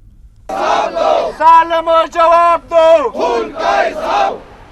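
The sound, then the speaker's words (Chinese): A crowd of protesters in Pakistan, angered by drone aircraft, shouts in unison, loud rhythmic chanting bursts with strained, harmonic-rich voices rising and falling in repeated phrases, with no single speaker standing out. “无人驾驶飞机喺巴基斯坦引起当地嘅示威者不满。”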